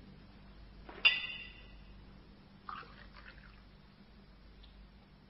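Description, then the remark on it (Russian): A glass clinks with a bright ringing tone, then water is briefly poured into it with a short splashing gurgle. It is fairly quiet over a low background hum, with no talking. “Дайте мне воды.”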